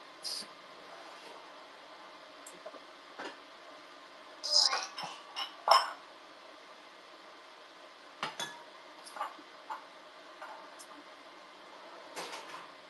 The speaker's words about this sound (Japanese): で、鍋出して。